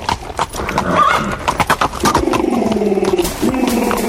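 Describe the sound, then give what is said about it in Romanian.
A horse ridden by a landowner neighs loudly as it arrives, its whinny rising and wavering, while hooves clip-clop in a quick irregular rhythm underneath. “Hai, lasă fleacurile, stăpâne, și hai, ridică-te în capul oaselor, că apare boierul calare pe calul lui și trebuie să ne luăm partea.”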